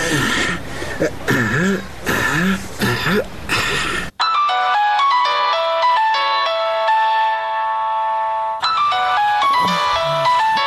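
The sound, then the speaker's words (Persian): A mobile phone rings with a bright electronic melody of sustained tones for about four seconds, loud, between stretches of animated, noisy voices; someone waiting outside the door is calling because the doorbell went unheard. “چی شدی که زنگ دروازه رو نمیشنوی؟ تا که مجبور شدم در تلفن برات زنگ بزنم.”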